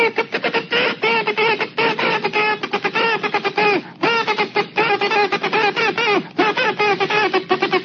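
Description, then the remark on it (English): Morse code (CW) played on a kazoo: loud, nasal buzzing tones switching rapidly on and off in short and longer bursts, a steady mid pitch with brief gaps, and no voices. “sending you actual code via kazoo.”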